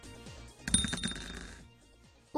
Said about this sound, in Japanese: ということで早速サイコロを振りましょう。